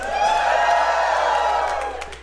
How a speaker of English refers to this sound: That's always gets a big round of applause when you say, like, if Ticketmaster's a shithead, that always works.